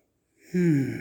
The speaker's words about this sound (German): Tiefes Atmen.